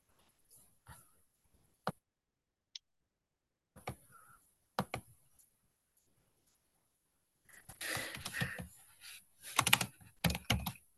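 Keystrokes on a computer keyboard, first a few scattered, sharp clicks with pauses between, then a busier flurry of close, fairly quiet typing toward the end. No one speaks.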